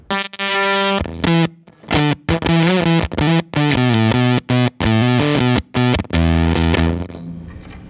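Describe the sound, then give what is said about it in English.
Heavily fuzzed electric guitar played through a pedal with no echo: a choppy riff, each note cutting off abruptly into silence from a tight noise gate, with no reverb trailing the notes. Loud. “This is no echo, you could just have fuzz. So here's like a super gated sound.”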